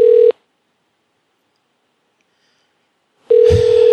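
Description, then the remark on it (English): Two electronic telephone keypad beeps from buttons being pressed, a short one at the start and another after about three seconds of silence, the second joined by a soft thump. No one speaks. “Milkman can only communicate in touch tones.”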